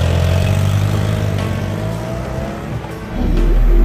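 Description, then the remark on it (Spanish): A motorcycle engine revs hard and accelerates as Maurizio rides off toward his country mansion in the Swiss Alps, its loud growl climbing in pitch and surging again near the end, with no voices. “Se montó de un salto en su moto y se dirigió a su mansión campestre en los Alpes suizos.”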